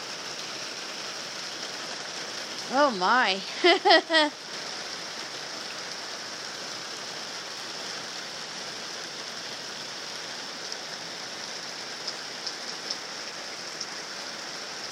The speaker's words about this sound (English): It's getting really dark. This doesn't look like just a regular spring rain. It looks like it's could get mean.